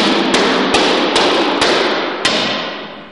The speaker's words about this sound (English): What are these panels made out of? It's a plastic polymer material. The best thing I can compare it to would be like a cutting board that you have in your kitchen. He throws the panels on the floor and starts hammering them into place.